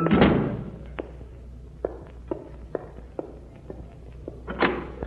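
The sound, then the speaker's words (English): A door shuts with a loud thud on a cold night, followed by a series of sharp knocks and footstep-like taps, then another heavy bump near the end. No one speaks. “I know, but I've got to shut that door, those drums.”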